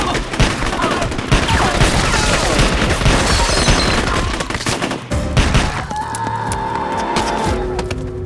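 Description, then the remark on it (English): Loud, rapid gunfire crackles in a dense barrage with shattering glass mixed in, then eases after several seconds into a thinner, ringing tail. “The gunfire ceased.”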